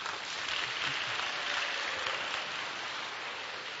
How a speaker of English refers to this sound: Others who will clap. Let's try and do a clap and let me say, bind some demons.